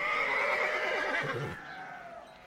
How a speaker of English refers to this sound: I hear the horses going neigh, neigh, neigh. Can you make that sound?